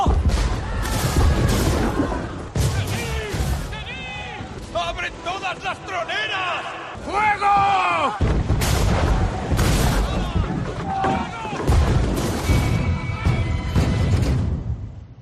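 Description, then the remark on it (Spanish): Heavy naval cannon fire booms repeatedly in a loud, chaotic sea battle as the galleon San José exchanges fire with the ship Expedition, with blasts and crashing explosions, including a great explosion that sinks the galleon, layered over shouting voices and whistling, wavering tones throughout. “Bueno, después de casi 3 horas de intercambio de fuego, el San José sufrió una gran explosión que lo llevó al fondo del mar.”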